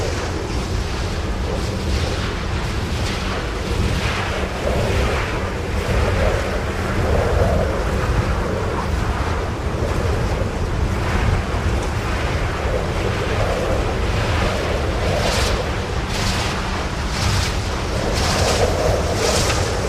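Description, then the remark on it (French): Strong wind roars steadily and loudly in the Corbières hills of Catalan France, a dense rushing noise with low buffeting gusts and occasional brighter hissing surges, with no voices. “Habité par les vents, les coups des ciseaux dans les vignes, la cantate des grenouilles et des crapauds dans la mare.”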